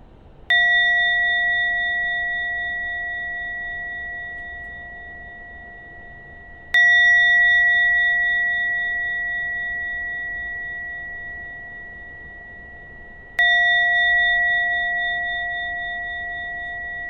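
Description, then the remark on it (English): A gong is struck three times to end a meditation, evenly spaced about six seconds apart, each strike ringing out with a clear, sustained metallic tone that slowly fades and carries into the next. No one speaks. “I'll ring the gong 3 times.”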